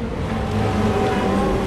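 busy city street traffic

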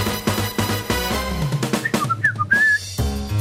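blowing a whistle

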